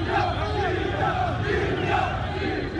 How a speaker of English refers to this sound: When shots were heard in Tripoli's Martyrs Square Sunday evening, a few protesters scattered. Others cheered, arms aloft, shouting, "Libya! Libya!"